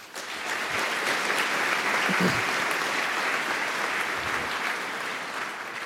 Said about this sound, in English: And so a big applause for them as well that they try to provide care in addition to our angel kitchen and all the other awesome people.